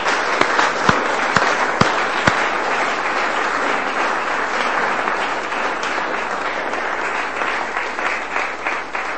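An audience breaks into sustained applause, a dense wash of many hands clapping steadily for about nine seconds, with a few sharper individual claps standing out near the start.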